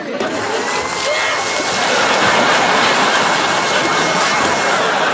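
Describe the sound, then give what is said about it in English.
A blender runs continuously for about five seconds, its loud, steady motor roar rich in hissy high-end noise and swelling slightly partway through. “Just because we're kids with a blender doesn't mean we have to make a mess.”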